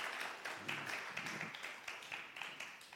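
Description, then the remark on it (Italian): Audience applause at a talk, given for the audience just before a question session: a dense, steady patter of many hands clapping for the full three seconds, bright and crackly, with faint murmuring voices underneath. “Gli applausi erano per voi, mi sono tolto.”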